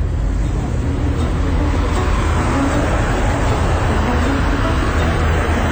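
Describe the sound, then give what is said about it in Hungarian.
Steady, dense street traffic rumbles at the Roosevelt tér bus stop, served by buses 16 and 105, a continuous low roar of engines and passing vehicles with no pauses, loud and even throughout. “A Roosevelt-téri megállóban vagyunk, és a 16-os és a 105-ös busz állít meg.”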